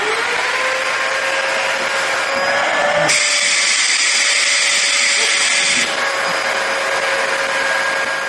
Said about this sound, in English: We're going to try to put a ponytail holder on with the vacuum cleaner.